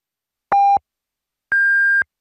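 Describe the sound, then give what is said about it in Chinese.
Two clear electronic time-signal beeps ring out alone: a short lower-pitched pip followed a second later by a longer, higher-pitched tone, marking 20:30 Beijing time on China's Voice of China radio. “北京时间20:30”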